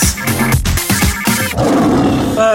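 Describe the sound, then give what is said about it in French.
A short, loud lion roar jingle with rough, growling bursts in quick succession, then a sustained noisy rumble, used as a punchy sound effect. “déteste les lions et ils lui rendent bien.”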